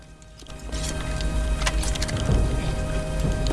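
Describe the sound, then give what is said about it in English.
Steady, heavy torrential rain pours down on soldiers in a trench in a dense, continuous hiss, with scattered sharper splashes and patters poking through, unbroken for the whole stretch. “Square-shouldered, Jack returns to his position and faces his men in the torrential rain.”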